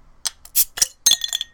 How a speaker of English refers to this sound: Well, you shouldn't put the cap in the glass. That never works that well, but...